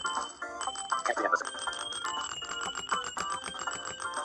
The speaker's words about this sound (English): So, this is going to be the sound you need to press enter on to get coins.